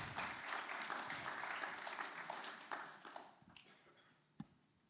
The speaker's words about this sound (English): why don't we just give him a round of applause, encourage him as he comes up.